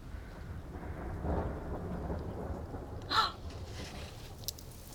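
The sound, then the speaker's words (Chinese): Low, rolling thunder rumbles steadily while rain begins to fall, a soft continuous patter. A brief sharper splash stands out partway through, with no voices. “我去，你个笨蛋，真的要下雨了，怎么办？”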